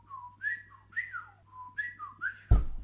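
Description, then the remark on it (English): A person whistles an imitation of a meadowlark's song: several clear, bright phrases of flat notes sliding up into quick warbling trills, repeated in two bursts, ending with a sudden bump or thud. “I said the meadowlark is the one you'd always hear.”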